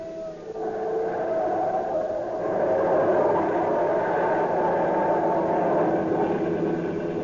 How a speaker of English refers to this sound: They're after us. Look out the back. Can you see them? No, I can't see them. But that siren sounds closer.